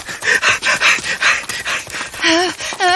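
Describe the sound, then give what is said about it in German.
A monster's menacing growl aimed at the listeners, in the dark in Costa Rica: loud, it rolls out in a rapid series of rough, throaty pulses, then turns into a wavering, warbling snarl toward the end. No one speaks. “Hörst du das? Dieses Geräusch! Das Ungeheuer knurrt uns an!”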